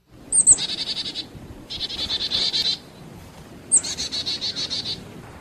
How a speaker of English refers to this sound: This is a chickadee call. Probably sounds very familiar to our audience.